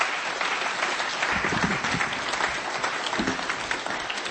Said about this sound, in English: Before you go, have a round of applause. What a great talk.